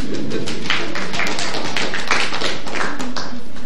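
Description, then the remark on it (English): A group of people applauds for themselves, steadily, a dense, loud crackle of many overlapping hand claps that continues without a break for several seconds, with no speech over it. “Clap for yourselves.”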